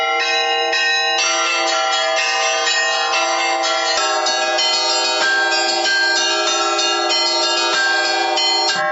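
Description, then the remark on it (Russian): Church bells ring continuously in a bright, overlapping melodic peal, several bells striking in a lively rhythm, loud with no voices. “На праздник, например, на Пасху и на Рождество мы другую мелодию играем.”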